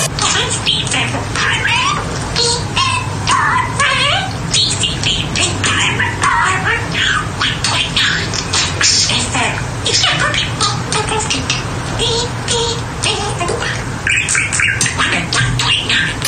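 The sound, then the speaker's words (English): A pet bird chirps, whistles and squawks nonstop, mimicking the short jingle of a radio show in a busy, tuneful stream of rising and falling notes. “look, I've got a bird that can speak, and not only speak, learns things so quickly.”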